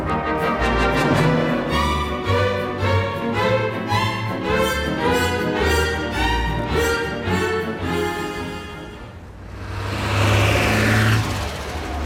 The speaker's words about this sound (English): That's the fifth bus that's gone straight past us empty.